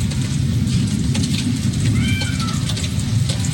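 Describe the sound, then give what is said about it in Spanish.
Steady rain, falling while an electrical storm is expected to arrive, hisses over a constant low rumble, with scattered patters of drops and a brief rising, whine-like tone partway through. “Ahí se escucha parte de la precipitación.”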